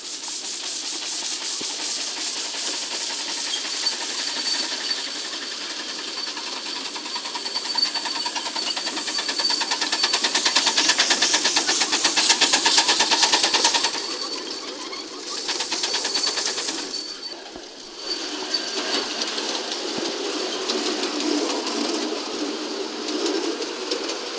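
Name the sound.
steam locomotive hissing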